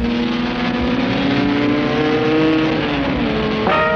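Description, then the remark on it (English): A loud racing car engine roars, its pitch rising and dipping as it revs, then climbs sharply near the end as the car passes. No one speaks. “Here's the latest motorsport news. Just made it.”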